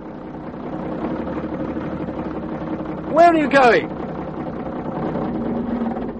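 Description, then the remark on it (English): A lorry engine idles with a steady, low rumble that runs unbroken through the whole clip, while a voice briefly calls out a short question partway through. “Stop the lorry.”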